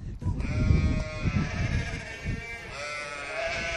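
Baby goats bleat in their pens in a barn, almost continuously in overlapping, wavering, high-pitched cries, a steady chorus of fairly loud calls over a low rumbling background.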